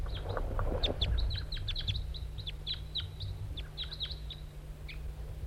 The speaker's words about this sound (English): Wild bird. Wild bird. Here it comes, wild bird.